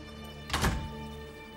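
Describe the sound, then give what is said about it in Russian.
A single soft, dull thunk as a folder is set down flat on a colleague's desk in a sheriff's office, a brief muffled thud that rises and fades quickly against a quiet, steady background hum. “Фрэнк кладет папку на стол коллеги.”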